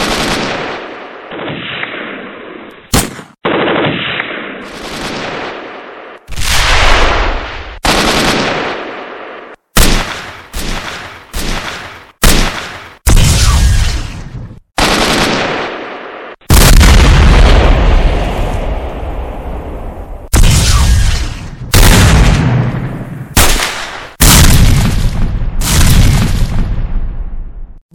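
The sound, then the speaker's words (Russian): Loud bursts of machine gun fire alternate with booming explosions in a chaotic barrage, sharp cracks and heavy blasts following one another with brief gaps over the whole stretch. “Огонь на поражение!”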